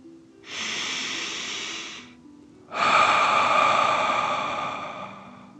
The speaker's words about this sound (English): let's take three more deep dragon breaths. Remember to breathe in through your nose, filling up your belly, and then out, pretending you are breathing fire. Deep breath in and out.